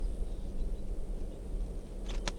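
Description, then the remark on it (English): A wild bird, a red male with a right-crossing bill, gives a couple of quick, sharp chitters near the end, brief high bursts rising over a steady low rumble of wind-like noise. No voices are heard. “Chitter, the wild bird.”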